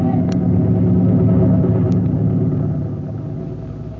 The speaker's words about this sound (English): Yeah, but planes can't stand still in the air, can they? Yeah. Who ever heard of a plane that could... Hey, golly, that one can. Yeah. Hey, it's a helicopter.